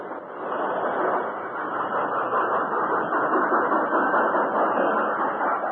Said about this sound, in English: As the Lone Ranger swung down from the engine cab, the passenger train slowly approached and stopped.